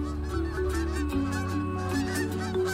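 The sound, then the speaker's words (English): A flock of geese honks loudly and continuously as Rocket, a dog, flushes them, many nasal calls overlapping into a busy chorus with no one talking. “And he absolutely loves to flush geese.”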